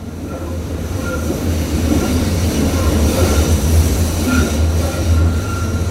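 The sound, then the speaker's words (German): A train rolls into a station with a loud, steady low rumble, metal wheels squealing in brief high-pitched bursts as it slows. No one speaks. “Alles aussteigen, dieser Zug endet hier.”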